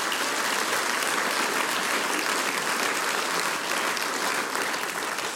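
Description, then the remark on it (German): An audience applauds the performers, including an ensemble, at a folk music broadcast, a dense wash of many hands clapping at an even, loud level for several seconds with no pauses and no voices standing out. “Danke, das ist euer Applaus.”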